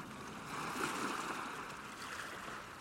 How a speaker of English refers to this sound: The sound of the sea has been the core of almost everything I've done.